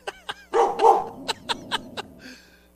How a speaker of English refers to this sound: By the way, you want to hear Ruby bark? Hey, Ruby, look at. There's dogs out there. Watch this.